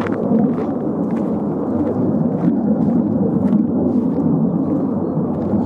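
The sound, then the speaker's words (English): A steady, deep roar of jet planes passing high overhead, a long way away in the sky, a broad low rumble that holds its loudness throughout with no breaks and no voices. “Noisy planes. Maybe from Lakenheath? God, that is a long way away in the sky.”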